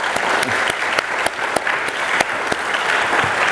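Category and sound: crowd, audience applauding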